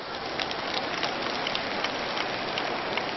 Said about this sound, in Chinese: 你们大家鼓鼓掌，谢谢他们。